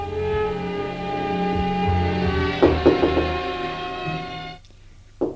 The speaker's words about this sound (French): Elle a frappé à la porte. Mademoiselle, vous vous sentez bien ? C'est la gouvernante.